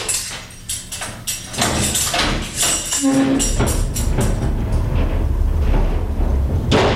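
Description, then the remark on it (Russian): A heavy iron door of the pretrial detention center on Volodarsky Street clanks and grinds shut, sharp metallic bangs and a brief squeal giving way to a deep, resonant rumble that lingers, loud. “Сегодня эти железные двери следчего изолятора по улице Володарского могли открыться, как выпустить на волю Юрия Хадыку и Вячеслава Сивчика.”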